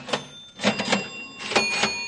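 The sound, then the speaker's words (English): Several cash registers clatter and ring in quick succession, with mechanical key-and-drawer bursts and a sustained bell tone hanging over them, moderately loud, with no talking. “Those sound like cash registers ringing to me. That's just what they are.”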